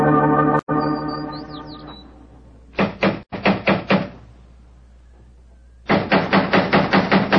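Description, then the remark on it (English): Loud, sharp knocks on a door come in two bursts: a quick round of about half a dozen raps, a pause, then a longer, more insistent run of rapid knocking. “He's home by the devil, doesn't he answer the door?”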